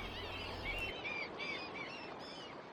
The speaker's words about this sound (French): Deuxième étape, le petit port de pêcheurs de Bermeo. Les chalutiers sont à quai. À part le clapotis de l'eau sur les coques et les mouettes, tout est calme.